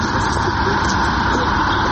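vehicle, car driving past

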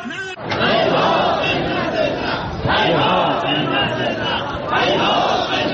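crowd, protest crowd chanting

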